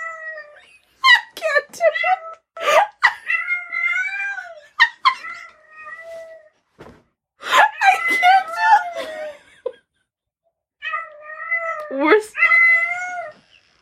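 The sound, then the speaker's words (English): A person imitates a cat, letting out drawn-out, wavering meows and yowls in three close, loud bursts separated by short pauses, with a few sharp breathy sounds between them. “You need to make the cat noise.”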